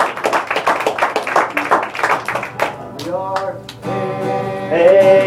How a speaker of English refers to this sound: Right, let's just give the Lord one more hand clap of praise before we start. Praise you, Lord. Thank you, Jesus.